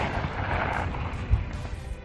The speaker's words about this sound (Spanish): ¿A qué se debe esta explosión, Mónica Álvarez?